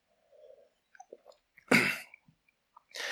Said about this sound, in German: So, ihr schluckt einmal und ich trinke mal kurz einen Schluck.